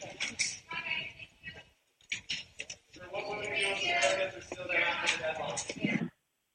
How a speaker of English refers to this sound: He's just flipping through pages.